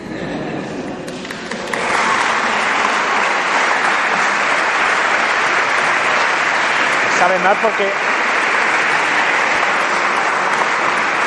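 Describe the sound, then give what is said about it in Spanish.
An audience bursts into sustained applause for the programme's team that stays loud and dense for several seconds, while a voice briefly speaks over the clapping near the end. “Sabe mal porque os veis obligado a aplaudir y yo sé que no aplaudiríais tanto, pero bueno, al equipo, ¿no?”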